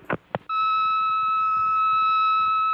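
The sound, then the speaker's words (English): An answering machine beep: a couple of quick clicks, then one long, steady electronic tone that holds at an even, fairly loud level for over two seconds. “Please leave your name and message after the beep.”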